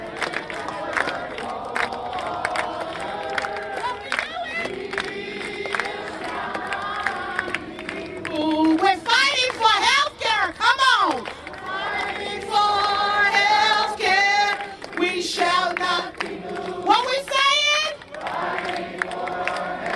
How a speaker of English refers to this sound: And I need you to sing with me, "We shall not be moved." So if you're with me, come on and sing.